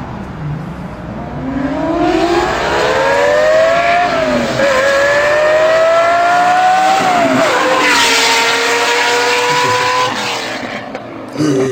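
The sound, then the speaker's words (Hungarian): A powerful Lamborghini Countach engine revs and accelerates on a street, its pitch climbing through several gear shifts before a loud pass; no one speaks over the roaring, high-revving exhaust. “Tehát, hogyha valaki hozzáképzeli a Countacht, akkor az együtt ez többet ad.”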